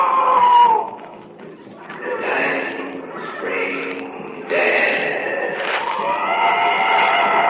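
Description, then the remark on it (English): A wounded animal screams out in the jungle in long, wavering, shrill cries that rise and fall in pitch, repeating almost without pause and staying fairly loud throughout. “Wounded animal screaming out.”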